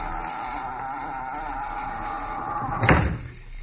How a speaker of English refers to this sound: Come on in. Shut the door.